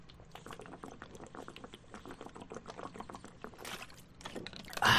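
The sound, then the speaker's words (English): Someone drinks water, with a run of soft wet sips and liquid gurgles, ending in a louder breathy burst as they finish. No one speaks. “But first, I'm going to drink some of this water, because you got to have water.”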